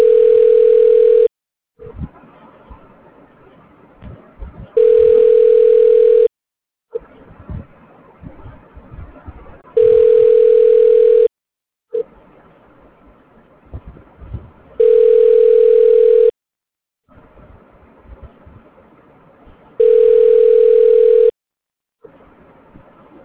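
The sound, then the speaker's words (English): A telephone ringback tone, heard while a call is being connected, repeats five times, each steady burst about a second and a half long, separated by longer pauses filled with faint line noise. Nobody answers or speaks. “Please hold while I try to connect you.”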